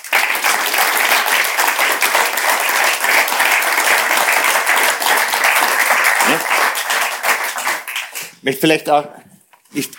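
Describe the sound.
Dense, steady applause from an audience fills about eight seconds at high volume, then thins out as a voice begins speaking over the last scattered claps.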